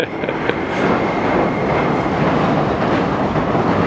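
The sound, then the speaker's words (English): A train rolls slowly along the rails with a steady, loud rumble, a few light metallic clanks standing out near the start before the noise settles into a continuous drone. “Man, this train really inches along. There must be a reason. I guess maybe this light clanking is better than the noise of a rush.”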